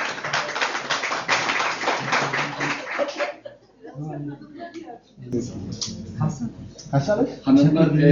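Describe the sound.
An audience claps steadily for about three seconds, a dense, loud patter of many hands, before it stops and voices begin talking over a quieter background.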